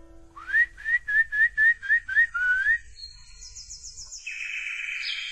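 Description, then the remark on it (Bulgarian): A person whistles a bird-like song imitating a nightingale in a tree, a rhythmic run of about eight quick, warbling mid-pitched notes, followed by higher, thin trilling tones that continue steadily to the end. “Уча се да пея като този славей на дървото, господин учителю.”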